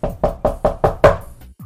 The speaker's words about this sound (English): Let's knock, shall we?